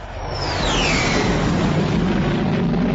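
A jet aircraft roars past, a steady, loud, rumbling wash of engine noise with a high whine sliding downward in pitch early on. No voices are heard.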